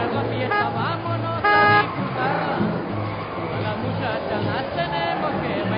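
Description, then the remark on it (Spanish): A busy outdoor scene as several families arrive by car and on foot and couples arrive on motorbikes, engines rumbling in amid steady crowd chatter, with a short loud horn toot partway through and engines droning low beneath the voices. “En ese momento llegan varias familias, unos en carro, otros a pie y varias parejas en moto.”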